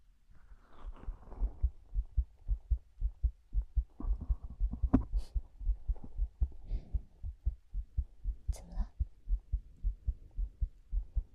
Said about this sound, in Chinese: 好了，我在，不用怕。听着我的心跳声吧。